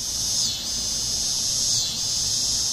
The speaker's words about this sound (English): It's the mating call of dog day cicadas, loud enough to rise above the drone of air conditioners, and so persistent and widespread that people who hear can hardly miss it.